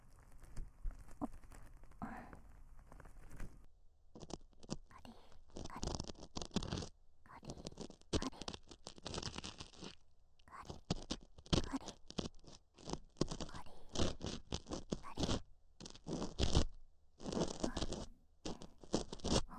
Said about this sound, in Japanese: 奥、失礼しますよ。では失礼して、カリカリカリカリカリカリカリ、トントンと。もう一度耳かき棒奥に入れます。